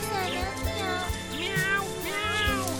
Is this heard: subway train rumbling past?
no